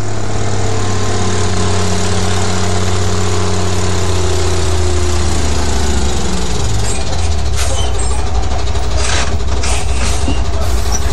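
A combustion engine idles with a loud, steady low drone, then its pitch sags and shifts midway before breaking into rougher, noisier running with sharp bursts near the end.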